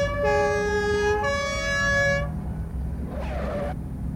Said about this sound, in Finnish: pisti ambulanssit ilman muuta messiin. Ne oli jo matkalla, kun mä soitin. No, tuossa ne tulevat.